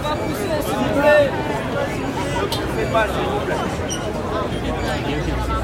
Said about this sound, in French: Tout le monde se bouscule, les menaces fusent à cause de la peur de perdre un centimètre carré de la place dans la file